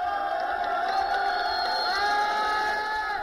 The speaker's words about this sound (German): bis drei vermummte Demonstranten das Dach des arabischen Kulturzentrums in Hama erklimmen und das meterhohe Konterfei des syrischen Präsidenten mit Hilfe von Stöcken niederreißen. Die Menge jubelt.